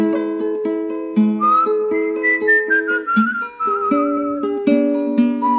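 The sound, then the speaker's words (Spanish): A slow, mournful whistled melody with gentle wavering notes floats over steady, sustained instrumental accompaniment; no one speaks. “se fue don Segundo, con su silbido tristón”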